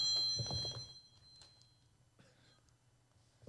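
A short electronic phone alert chimes near the start, bright and tonal but fairly quiet, then fades into low room noise broken by a few soft knocks.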